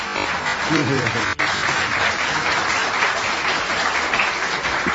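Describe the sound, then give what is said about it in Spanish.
An audience applauds steadily for several seconds to greet a program's guests, a dense, continuous wash of clapping with a brief dip partway through, loud throughout with faint voices mixed in. “pero ¿qué les parece si los saludamos con toda la elegancia del caso y con los aplausos de nuestros amigos de acá?”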